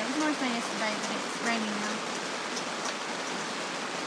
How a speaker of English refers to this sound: Hello everyone, on the last day of camping, listen to the rain. So it just started